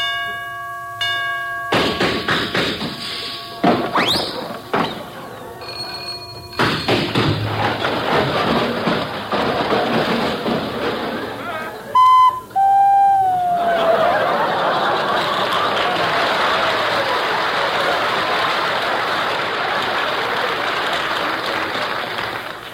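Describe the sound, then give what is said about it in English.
A grandfather clock's chimes ring out as it strikes two o'clock, then give way to a long, loud clattering racket of bangs, clangs and rattling noise, with a brief bell-like ding partway through and no talking. “Ah, look, it's about to strike 2 o'clock.”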